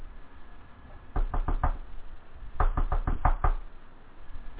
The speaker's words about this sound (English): A rapid knock on the door signals an interruption and a change in the air. What had been a turgid lump of a morning came suddenly to attention with that knock, knock, knock.